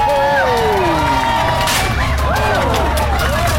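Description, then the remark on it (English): A loud crowd at a jousting show cheers and shouts continuously, with many voices yelling and whooping over a dense roar of noise that holds steady throughout. “Et faites du bruit.”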